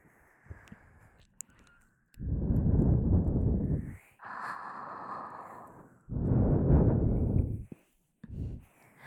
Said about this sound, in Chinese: 放轻松，只是喘气而已。